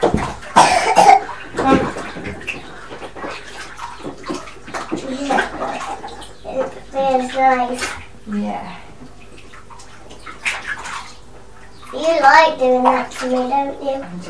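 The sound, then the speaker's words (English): Water is poured over hair in a bathtub to rinse out bubbles, splashing in short bursts of rushing sound, with a child's voice and a cough breaking in between pours. “I like doing this as well, where I get all the bubbles out from underneath.”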